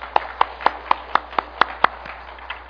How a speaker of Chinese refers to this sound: 好，我们给他们这里的掌声来鼓励他们。